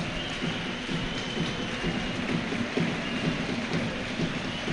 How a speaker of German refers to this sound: Oh, welch Wunder, er hat es gesehen, kann man da nur sagen. Dass der überhaupt noch Applaus kriegt, ist ja ein Wunder.